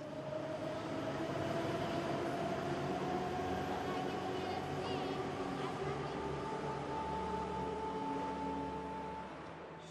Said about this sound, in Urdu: میں تہران کے metro station پر ہوں. میٹرو سفر کے لیے ایک بہترین وسیلہ ہے کیونکہ شہر میں ہمیشہ ٹریفک ہوتی ہے.